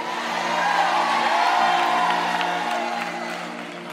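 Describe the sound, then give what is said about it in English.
An audience shouts and cheers in a sustained, roaring wash of voices that swells toward the middle and slowly tapers off over several seconds. “are y'all still shouting on that one right there?”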